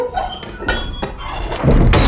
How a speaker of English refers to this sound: They reached the castle just in time. They charged through the great wooden door, and some men quickly pushed it shut.